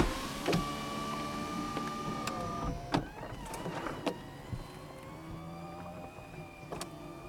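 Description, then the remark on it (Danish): A steady electric motor whine with shifting tones runs for several seconds, punctuated by mechanical clicks and clunks, as a car's convertible soft top retracts electrically, said to take about 10 seconds, heard from the driver's seat. “Ja, jeg har ikke taget tid, men det skulle efter sigende tage omkring 10 sekunder at få kalæschen væk i den bil, som jeg sidder bag rettet i nu.”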